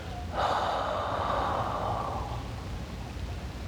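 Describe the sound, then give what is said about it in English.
A single slow, deep cleansing breath, drawn in through the nose to fill the belly and exhaled through the mouth like a deep sigh, a soft airy rush lasting about two seconds before fading out, with no talking. “Let's take three deep cleansing breaths by breathing in through your nose, letting the air fill your belly, and exhaling through your mouth like you might a deep sigh.”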